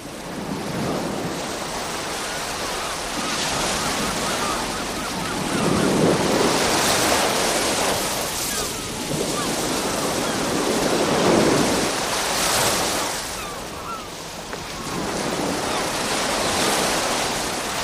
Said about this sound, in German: Heute Morgen bin ich mit dem leisen Rauschen der Wellen vom Meer her aufgewacht, in meinem Haus direkt am Strand.